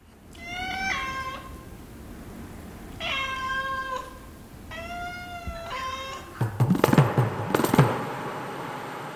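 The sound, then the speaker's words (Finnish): A four-month-old Siberian kitten, given as a gift by Russian president Dmitri Medvedev and kept in Moscow until now, meows in a series of drawn-out, harmonic cries, about four calls with short pauses between them, fairly loud, followed by a burst of clattering, rustling noise near the end. “Kissanpentu on nyt 4 kuukauden ikäisenä luovutusikäinen. Rodultaan se on Siperian kissa.”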